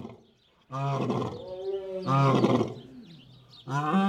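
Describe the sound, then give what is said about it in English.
Three deep, throaty lion roars come in succession, each a long harmonic-rich bellow lasting over a second, with brief pauses between and no talking over them. “Lions also paint, but not today. Something's up with them.”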